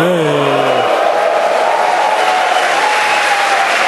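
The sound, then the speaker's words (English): A crowd claps steadily and loudly for the full stretch, a dense wash of many hands, with a brief falling electronic tone fading out at the very start. “Applause for software that actually works.”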